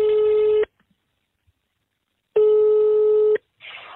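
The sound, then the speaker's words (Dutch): A telephone ringback tone sounds on the line as a call is placed from BNR radio: two steady, buzzy mid-pitched tone bursts separated by a long silence, followed by a short hiss of line noise as the call connects. “Ja, ik had mijn belletje natuurlijk al min of meer aangekondigd, maar komt het uit dat ik je even bel?”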